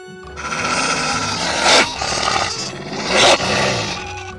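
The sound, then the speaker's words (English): A wolf growls and roars in a deep, rumbling, sustained snarl that swells into two louder surges, with no other sounds or voices. “Later, he sees a wolf.”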